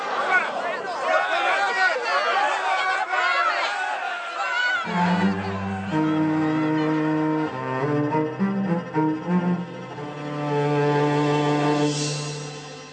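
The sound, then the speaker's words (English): A mob at the trial of Jesus shouts against him in a loud, jumbled roar of many overlapping voices for about five seconds, then gives way to sustained, swelling orchestral music with steady low tones. “If ever a crowd defined fickle, this one was it.”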